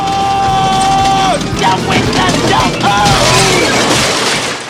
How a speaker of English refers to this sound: He crashes into a gift shack.